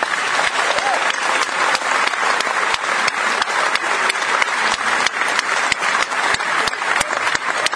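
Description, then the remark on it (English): Steady, sustained applause from an audience at a a band's performance for a young man on stage with the group for the first time; dense clapping with a few sharper individual claps standing out, loud, with no speech over it. “I don't normally do this, but I want you to give a nice round of applause”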